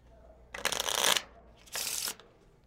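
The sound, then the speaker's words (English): A deck of playing cards being shuffled: a longer riffling burst, a brief pause, then a second, shorter riffle, with no voices. “All right, give them a shuffle.”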